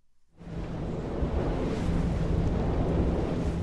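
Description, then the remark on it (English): Wind and rain outdoors in the village of Elhoft in July: a steady, loud rush of wind with heavy low rumbling gusts buffeting the microphone and a constant hiss, rising in quickly and holding without pause. No voices. “Instead, it's rainy and windy again here in the village of Elhoft.”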